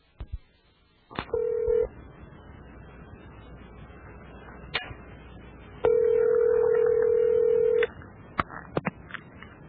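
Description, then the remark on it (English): A telephone call being placed to an organization's office line, which an answering machine picks up: a few clicks and short dialing tones, then two steady ringback tones, a short one and a longer one, over faint line hiss, with more clicks at the end. “I tried to call that guy to get him on this show, and I'm going to play you now what I got.”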